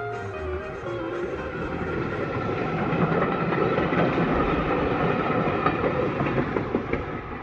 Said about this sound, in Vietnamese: Tàu tiến vào sân ga.